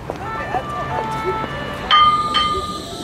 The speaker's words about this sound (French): Là, on vient d'arriver à Nantes et on est station chantier naval, la station de tramway chantier naval. C'est le port.